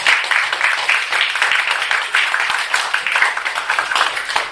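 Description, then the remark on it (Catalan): An audience claps steadily in thanks for several seconds, a dense, crackling wash of many hands at a fairly loud, even level with no voices heard. “Fem un aplaudiment i donem les gràcies.”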